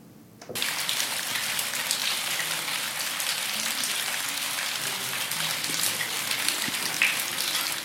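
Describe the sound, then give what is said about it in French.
Steady rain patters onto a hard surface, a dense, continuous hiss of drops that starts abruptly after a brief quiet moment and holds at an even level throughout. “Moi, je suis vraiment neutre au bruit de la pluie.”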